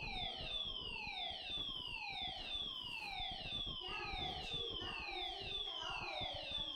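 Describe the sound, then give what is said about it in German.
A smoke alarm goes off during a sermon, blaring continuously with rapid, repeating downward-sweeping electronic tones that overlap into a steady, piercing wail. It stays loud throughout. “Ah, der Rauchmelder ist angegangen.”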